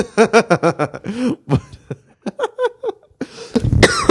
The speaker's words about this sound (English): Look at that. Coughing in the microphone.